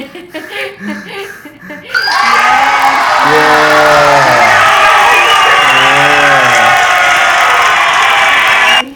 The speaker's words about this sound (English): We need a round of applause